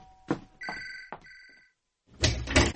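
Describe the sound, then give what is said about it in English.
A front door opens: a few solid clunks and latch knocks ring out against a brief metallic chime, then a short burst of rushing, scraping noise as the door swings open. “Oh, I'll get the door.”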